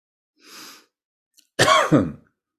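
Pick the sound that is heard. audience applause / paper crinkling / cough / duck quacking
cough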